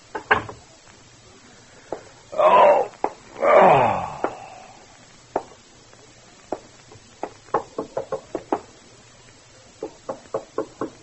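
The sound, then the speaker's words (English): Sharp knocks rap on the front door of an apartment in several quick bursts, loud, after a brief moaning, wailing sound early on. No one speaks. “Your first impulse is to answer the door, isn't it, Ted?”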